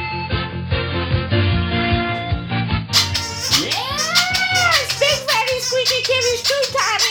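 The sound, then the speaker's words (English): A cat named Squeaky Kitty lets out a single drawn-out meow, rising then falling, clear, midway through a busy stretch of background sound with some muffled voices before it. “Yes, Squeaky Kitty made a surprise Squeaky appearance.”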